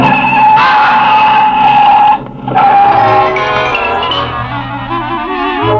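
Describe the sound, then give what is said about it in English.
A car swerves with tires screeching in a loud, sustained high squeal over a roaring engine, cutting out briefly midway before a second skid squeals and the engine rumble carries on. “I'd swerved the car and sent Fracture tumbling into the road.”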